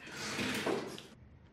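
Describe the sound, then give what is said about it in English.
After a knock, a door opens and closes with a sustained rushing scrape lasting about a second, then stops abruptly, leaving near silence. Fairly loud, with no voices. “I love this because he knocks at the door. The door opens. The door closes.”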